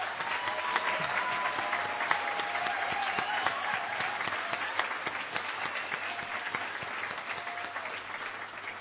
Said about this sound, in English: So if you could just give them another round of applause.